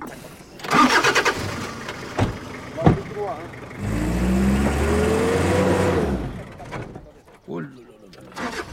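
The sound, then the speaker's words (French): A 4x4 vehicle's engine revs up on sand for a couple of seconds, a loud, rising growl that then cuts away, preceded by a few sharp knocks and faint voices. “C'est comme une voiture de la 4x4.”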